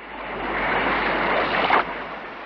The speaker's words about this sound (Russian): Вот пошел он к синему морю, видит, море слегка разыгралось.